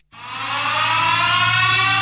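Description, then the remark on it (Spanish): An alarm starts abruptly and blares continuously, a harsh, buzzy tone rich in harmonics that swells quickly to full loudness and holds steady for about two seconds with no voices. “Por favor, se van para atrás, está sonando la alarma, no escuchan”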